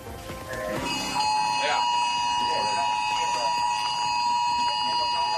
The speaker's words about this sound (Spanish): A las 10 de la mañana y 13 minutos sonó la alerta a través del sistema S-Alert, indicando que había que prepararse para la llegada de la gran ola. Así sucedía también en los móviles de todos los que nos encontrábamos en el puesto de mando avanzado.